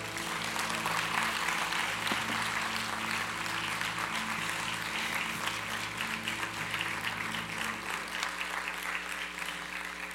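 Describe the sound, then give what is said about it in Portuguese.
A church audience claps for the Lord steadily for about ten seconds, a dense, even wash of many hands at moderate volume with no voices rising above it, fading slightly near the end. “Podemos aplaudi-lo?”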